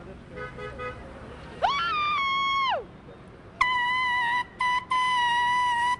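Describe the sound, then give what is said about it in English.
Two loud, blaring blasts from a canned air horn, blown during a strike amid rush-hour commuters: a long one that bends downward at its end, then a second sustained blast broken by brief cutoffs, with faint background murmur underneath. “This will be my third. Third can of blowhorn?”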